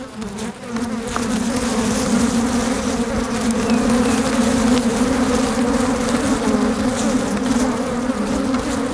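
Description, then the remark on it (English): A dense, loud buzzing of many angry African honeybees swarming out of a disturbed hive into the microphone, a steady droning hum with no pauses across the whole stretch and no voices. “This is that original recording of angry bees.”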